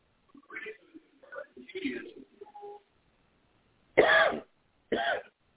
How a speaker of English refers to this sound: I'll probably get this cough over with. It's troubling me this morning.